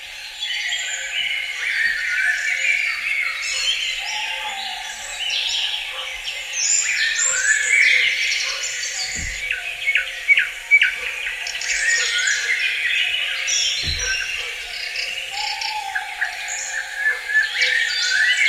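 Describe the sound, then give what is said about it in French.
A dense, continuous chorus of chirping birds fills a reverberant forest, calls overlapping and ringing out as if under a high roof, with a couple of soft low thumps in between. “ça fait comme des murs, et le son est exactement celui d'une cathédrale. C'est la seule forêt au monde qui sonne comme ça.”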